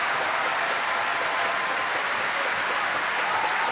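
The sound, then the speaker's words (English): A large opera house audience applauding steadily at the curtain call of Macbeth, cheering Anna Netrebko as Lady Macbeth, a dense, continuous roar of clapping with scattered cheers from high in the house mixed in. It holds at an even, fairly loud level throughout, with no one speaking over it. “waving as the cheers rain down from high in the opera house, and moving back to take her place with the principals in front of the chorus.”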